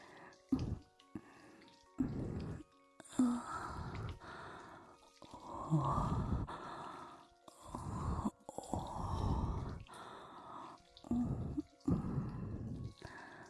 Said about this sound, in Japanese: こうやってお耳にゆるーい吐息を浴びせながら僕のことさらに興奮させて追い込んであげる。